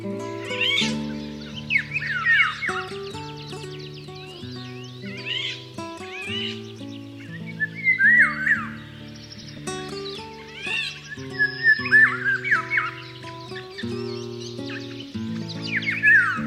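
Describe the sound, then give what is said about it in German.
A Eurasian golden oriole sings repeated bursts of bright, fluty, warbling phrases, while a steady low musical drone or sustained tones play underneath throughout. “Das war der Pirol.”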